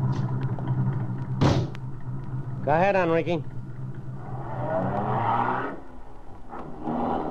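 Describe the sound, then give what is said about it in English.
A single solid thud like a car door shutting, then a brief spoken line, followed by an engine revving up and pulling away under a steady low rumble. “Get in this car.”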